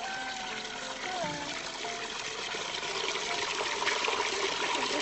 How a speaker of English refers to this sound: The sound of running water from one of the taps was music in my ears. Listen to it.